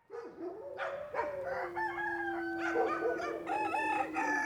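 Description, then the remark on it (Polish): Roosters crow loudly, their long, drawn-out calls overlapping one after another for several seconds with no one speaking. “A te pijące koguty to tak jak wyjące syreny statków.”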